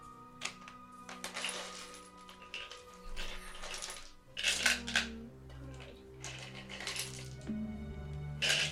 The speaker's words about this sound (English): have all of the coins stopped falling through the hand? Most of them, yeah.